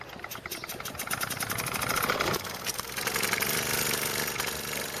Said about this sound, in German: Peter hat es tatsächlich fertiggebracht, in der Zwischenzeit seine Solex wieder zum Leben zu erwecken.